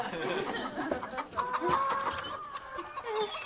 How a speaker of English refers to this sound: This is not what it looks like. It looks like a petting zoo full of chickens and piggies.